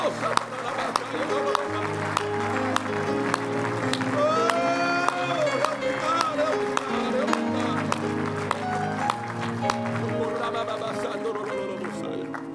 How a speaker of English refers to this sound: In the mighty name of Jesus, if you love the Lord this morning, somebody clap your hands unto God. Yes, God, yes, God.